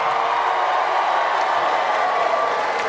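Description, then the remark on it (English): An audience of married people cheers and claps in a steady, continuous roar that fills the whole stretch at an even, fairly loud level, with no single voice standing out. “Let's try it again. Married people, make some noise.”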